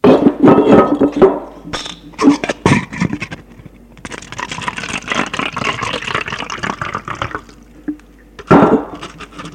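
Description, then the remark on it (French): A café owner pours a drink into a glass for a customer: a few clinks and knocks of glassware, then a steady splashing pour lasting several seconds, ending with another sharp knock. No one speaks. “Le cafetier le sert.”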